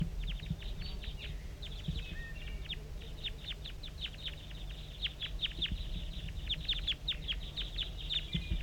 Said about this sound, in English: We're getting a lot of calling from the decoys right now. Here go the wild ones. Three, four of them. Five, four of them. And they've taken off, gone into the distance, and dove down into the bottom of the hollow.